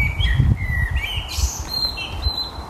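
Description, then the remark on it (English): A blackbird perched on top of a house's chimney cap sings a run of clear, fluting whistled phrases, rising and falling, over a low rumbling background of wind or traffic. “There it is, the blackbird singing.”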